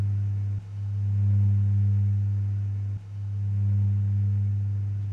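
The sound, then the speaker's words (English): A dull, steady low hum of running machines drones continuously, with two brief dips where the tone momentarily drops before resuming at the same even level. No voices are heard. “Sometimes if you get money stuck in them, you know one's going round, but just a hum, isn't it, to us?”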